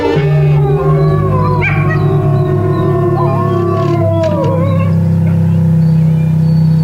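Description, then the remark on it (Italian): Several wolves howl in long, gliding, overlapping wails over a steady low droning musical backdrop on a music record, loud and continuous throughout. “Ecco quindi uscire dischi con lupi a cantarsela.”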